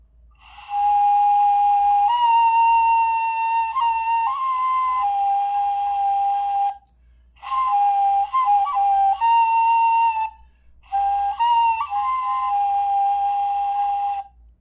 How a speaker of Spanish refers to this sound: El nombre de la flauta es Kawadi Dehe en su lengua originaria. Kawadi Dehe. Sí. Es flauta de hueso de venado.